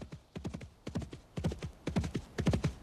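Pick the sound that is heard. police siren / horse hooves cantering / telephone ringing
horse hooves cantering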